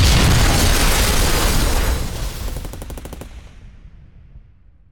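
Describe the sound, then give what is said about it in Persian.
A loud, booming explosion roars as a tank is hit and turns into a ball of fire, followed by a rapid burst of machine-gun fire from the tank's machine gunner that rattles out and then fades into a decaying rumble. “من که شلیک کردم، تیربارچی تانک هم شلیک کرد. یک لحظه دیدم تانک شده گلوله آتش.”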